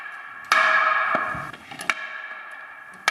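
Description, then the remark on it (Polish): A wooden alarm clapper, an old fire alarm once used to signal a fire and still in working order, gives sharp, loud clacks at irregular intervals, about four or five knocks over a few seconds, with a ringing, high-pitched tone lingering between strikes. “Były to różnego typu syreny i na korbkę, i kłapaczki alarmowe, i kołatki. Działają te kłapaczki?”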